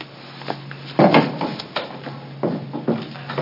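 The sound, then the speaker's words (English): A wooden chair is pulled up for a panel at a committee hearing, scraping and dragging across a floor in several rough, uneven bursts, the loudest near the start, with short pauses and lighter knocks between. No one speaks. “Pull up another chair. Unless they're break the furniture.”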